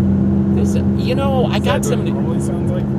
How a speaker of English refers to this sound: I got some new tires. And the tire, they make a lot of noise. It's the tires. That's not a good sound.